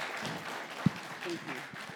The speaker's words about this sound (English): So congratulations on your new book. If we could give him a round of applause for his new book.